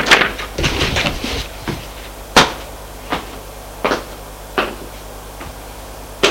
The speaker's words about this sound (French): On frappe à la porte.